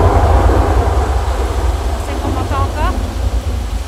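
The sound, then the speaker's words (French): A heavy thunderstorm over a garden rumbling, a loud, deep, continuous roar of low thunder that holds steady throughout, with a few faint high chirping sweeps near the end. “Vous entendez, c'est le gros orage.”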